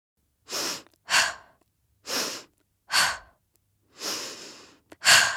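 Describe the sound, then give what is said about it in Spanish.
A woman preparing for labor breathes in a steady rhythm of about seven broad, airy breaths, each a soft whoosh of inhale or exhale separated by short pauses, with the final breaths a little louder. No one speaks. “Esta mujer que escuchan se prepara para el trabajo de parto. La respiración es clave.”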